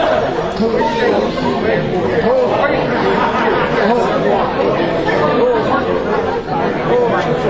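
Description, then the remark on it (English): A group of voices murmurs together in a low, steady chant, the indistinct words blending into one continuous, droning wash of sound that stays loud and even throughout. “It's like a murmured chanting.”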